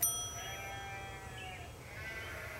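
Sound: sheep bleating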